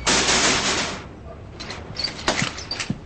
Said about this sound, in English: He holds his stomach and runs back to Craig's house, banging on his front door.